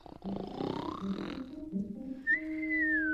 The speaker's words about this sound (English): and was soon snoring loudly. Just then, a hunter passed by the cottage. "I wonder why the old woman is snoring so loudly today," he thought.